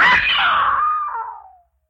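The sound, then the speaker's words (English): A woman lets out a single loud scream that starts shrill and slides downward in pitch before cutting off after about a second and a half, with no talking around it. “Yeah, I screamed.”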